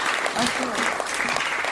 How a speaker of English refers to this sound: You've been wonderful. Thanks for having me. Give out a little bit more applause.